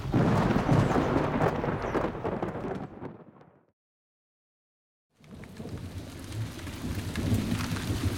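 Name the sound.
rain with thunder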